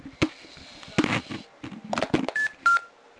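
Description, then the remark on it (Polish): A Czytak audiobook player gives a pair of short, high electronic beeps in quick succession as it is reset, preceded by several sharp clicks and handling noises from pressing keys 2, 5, 8 and 0 at the same time, fairly quiet. “Oczywiście będzie taki sygnał, taki o, proszę bardzo.”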